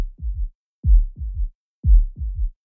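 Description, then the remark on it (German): Low, muffled heartbeat thumps in a steady lub-dub rhythm, three paired beats clear as if through a stethoscope, with silence between and no voices. A heartbeat heard through a tube with one end set on the chest and the ear at the other end. “setzte das eine Ende auf den Brustbereich auf, legte das Ohr an das andere und hörte zu meinem Erstaunen und zu meiner Freude die Herzschläge weit reiner und deutlicher, als ich sie jemals beim direkten Auflegen des Ohrs vernommen hatte.”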